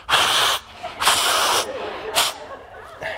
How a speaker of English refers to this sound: Blowing your nose. No one's sexy when they blow their nose. I'll blow my nose.